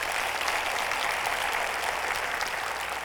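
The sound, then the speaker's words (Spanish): An audience claps together in steady, dense applause for the Lord, a continuous wash of crackling hand claps holding an even, fairly loud level for the full few seconds with no voices above it. “un aplauso al Señor.”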